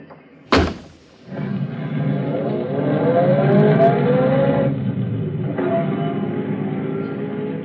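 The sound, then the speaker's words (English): A sharp thud like a car door shutting, then a person's own car starts up on a street on a lovely day. The engine runs steadily, its pitch rising and falling as it revs and pulls away. Fairly loud, no talking. “But that's my car.”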